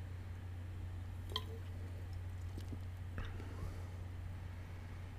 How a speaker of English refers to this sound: Let me take one more sip.